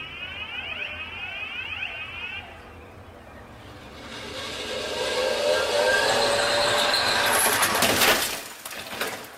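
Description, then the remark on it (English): Repeated rising whines give way to a building roar of a car speeding up to about 50 miles per hour on a Saab test track, ending in a sudden loud crash as it slams into a moose dummy, followed by brief clattering. The test cars, a new Saab and an old Volvo, carried human-shaped test dummies. “A new Saab and an old Volvo with human-shaped test dummies were propelled toward the moose dummy at about 50 miles per hour.”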